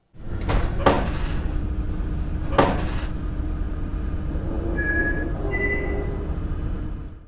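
Three deep, hollow button clicks, pitched down with a lot of added reverb, ring out with long reverberant tails, two close together and one after a pause, over a steady low rumble, followed by faint brief tones.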